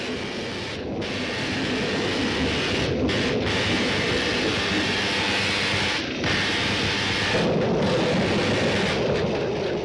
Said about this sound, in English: Including rather a lot of electricity and zaps as the storm ensues and Frankenstein's body of the monster is on the plinth being reanimated.